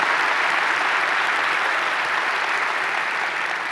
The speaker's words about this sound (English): We have people all over the world that are joining us right now as well. By applause, would you help me welcome all of them as we are one church in many locations.